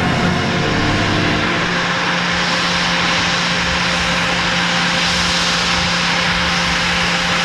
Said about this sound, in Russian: В канун празднования Дня Шахтера, традиционно отмечающийся в последний воскресный день августа, в Новокузнецком аэропорту с Печенкова приземлился самолет, который в Кузбассе ждали долгих 17 лет.